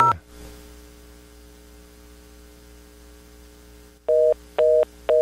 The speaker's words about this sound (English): A reorder? Well, what happened to the operator? I want the operator. They're busy. Ah, that's not busy signal. That's an all circuits busy.